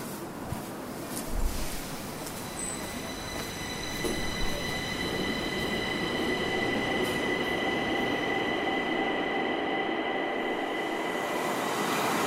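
subway train riding

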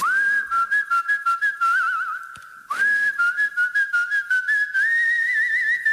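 human whistling a melody

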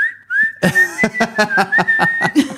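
human whistling

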